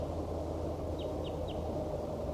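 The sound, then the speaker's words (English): A wild bird down a hollow calls back with three quick, high-pitched downward chirps in a steady rhythm, faint against a constant low rumbling background noise, with no voices. “There appears to be another wild bird down the hollow calling back.”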